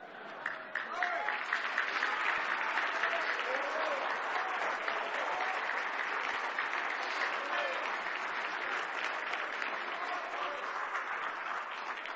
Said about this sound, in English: Now, if he was clapping for me, it didn't even deserve that. But if he was clapping for him, we ought to make this building ring.